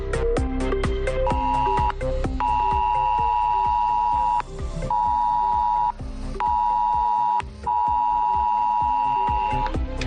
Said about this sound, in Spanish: Cuando ya había pasado lo peor, en torno a las 9 menos cuarto de esta mañana, llegaba la alerta del SAL a nuestros teléfonos.